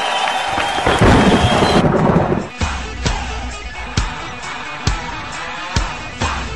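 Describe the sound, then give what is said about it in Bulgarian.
A loud, rolling rumble of thunder fills the first couple of seconds, then gives way to steady rain punctuated by sharp, evenly spaced booms roughly every second. No one speaks. Played as a boxer's entrance for a professional boxing match. “Това начало може да е банално, но така излиза за мач Кобрат Пулев. Кобрата като гръм се качва”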